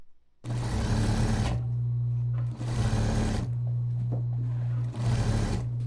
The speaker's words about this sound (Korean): 재봉틀 돌아가는 소리가 바쁘게 들리고 있습니다. 이곳은 경기도 부천시 소사지역자활센터입니다.